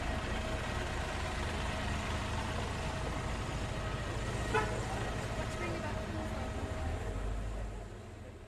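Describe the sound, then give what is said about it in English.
A bus's brakes screech with a steady, high-pitched squeal that holds for several seconds over loud engine rumble and street noise, then fades slightly toward the end. “See the screech there, the bus breaking.”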